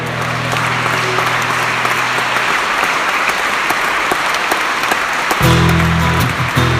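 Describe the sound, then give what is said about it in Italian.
Sustained applause from a large audience at a Christian worship gathering, given for God the Father; dense clapping continues throughout, with a low droning tone beneath it at the start and end. “Un applauso al Padre.”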